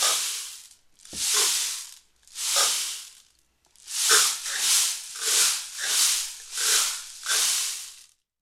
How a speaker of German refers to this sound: Ein Lied auf dem Regenmacher, aha.